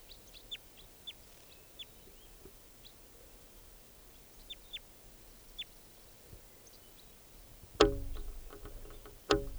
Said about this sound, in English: Recording that wild bird. Wild bird here.